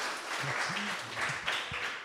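A crowd applauds steadily for a quiz contestant who has just answered a question correctly, a dense wash of clapping that holds at an even loudness throughout, with a few voices calling out underneath.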